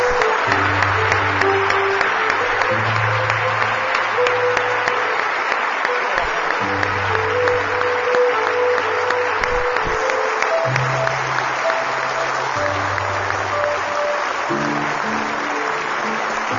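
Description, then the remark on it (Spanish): A church audience applauds Jesus Christ during a moment of praise, in sustained, dense clapping for the whole stretch, loud and steady, while a low sustained musical tone or keyboard chords play underneath. “Y si tú crees eso, dale un aplauso a Jesucristo en este momento.”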